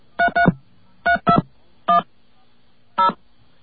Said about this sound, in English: So let's call up and see what happens. Here we go. We have our dial tone. We're calling up the number.